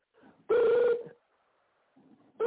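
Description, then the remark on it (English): A telephone rings in loud, steady electronic bursts: one full ring about half a second long, then a pause filled with low murmuring, and the next ring starting at the end. “I think we should just let the damn phone ring.”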